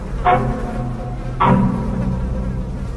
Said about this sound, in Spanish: salió una gruesa nube de moscas acompañada de un pestilente y nauseabundo olor.